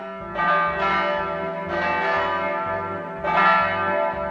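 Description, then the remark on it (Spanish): Church bells ring out in a steady sequence of strong strikes, each leaving a rich, resonant hum that overlaps the next. The peals are loud, with no voices. “Bueno, descubro que dentro de las empresas que están en esas localidades está la fábrica de campanas para iglesia.”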